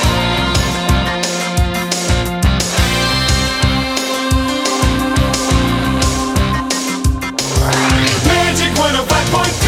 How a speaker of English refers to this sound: And another weather bed for more serious weather. This one has 21 seconds for talk time.